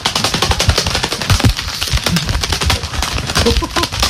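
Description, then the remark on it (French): Gloves are clapped rapidly together to imitate a large bird, like a big pigeon, taking off, producing a loud, continuous flurry of sharp, papery wing-flap bursts that lasts about four seconds without letting up. “Prends un gant et en fait, on va imiter un oiseau qui s'envole. Donc, il suffit de prendre des gants et de les faire claquer.”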